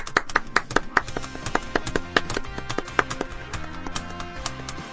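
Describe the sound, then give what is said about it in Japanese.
Applause in steady, rhythmic hand claps, sharp and fairly loud, over a tonal musical backing, with no one speaking for the whole five seconds. “いや あれでしょ、拍手の間に俺が喋るの期待してたでしょ。”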